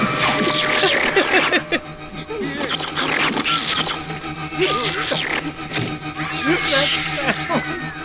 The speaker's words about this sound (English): And all I can hear is meow, meow, meow, meow, meow.